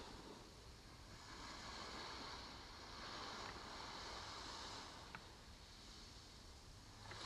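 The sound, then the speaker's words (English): Steady ocean surf washes onto the shore in broad, gentle swells, a continuous rushing hiss that rises and falls softly with a faint breeze behind it and no voices. “Allow the waves to soothe any thoughts.”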